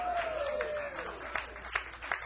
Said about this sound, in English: Even my son's applauding for that.